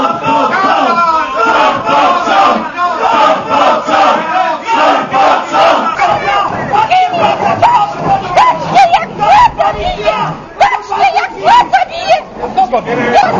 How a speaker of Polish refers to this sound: kiedy bezrobotni usłyszeli, że tylko na rok do więzienia pójdzie, wiceprzewodniczący Rady Powiatu wówczas podnieśli na sali głos, zaczęli krzyczeć, a potem doszło do przepychanek z policją, która chciała ich siłą wyprowadzić z sali.